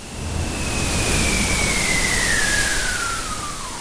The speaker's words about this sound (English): It is a recording of a whistling seal underneath a melting glacier in Antarctica. What's more difficult to hear in that recording is the glacier's ice cracking.